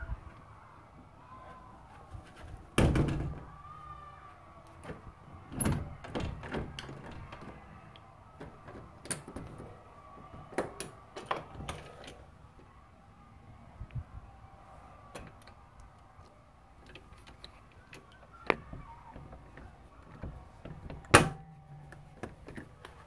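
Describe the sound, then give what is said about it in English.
A back door being locked: scattered sharp clicks, clunks and rattles of a bolt and handle over a quiet background, with a louder thunk near the start and another toward the end. “Locking the back door.”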